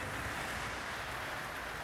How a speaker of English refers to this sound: Do you hear it? It's raining.